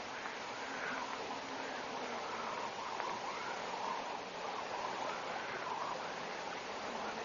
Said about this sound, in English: Yes. There's running water. I couldn't say which direction the sound's coming from. Compounded whispering seems to throw sound at you from all directions.